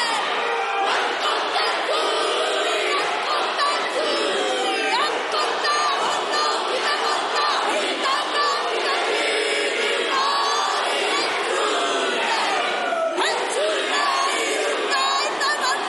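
A large group chants and shouts a Maori war haka in unison in the parliament of New Zealand, loud and forceful, with rhythmic bellowed phrases that carry on without pause from start to finish.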